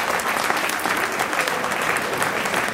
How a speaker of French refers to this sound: Donc là, encore une fois, je pense qu'on peut s'applaudir parce que c'est grâce à nous qu'il recule.